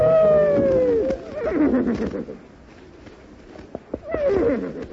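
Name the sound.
horse whinnying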